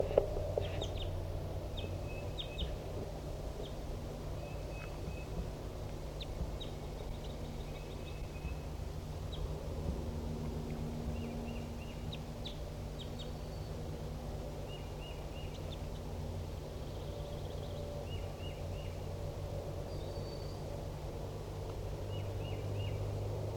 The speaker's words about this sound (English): There's not a wild bird here. It's 10:30 a.m. And so Decoy and 4-7 and the other newly caught birds are responding.